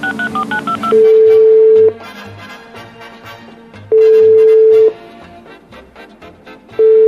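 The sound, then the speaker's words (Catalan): A quick run of telephone keypad tones dialing a hospital is followed by a ringing phone, its loud steady rings repeating about every three seconds with a faint murmur of background activity in between. “I lo bo és que ara vas directament a la finestra i veus que el telèfon està sonant.”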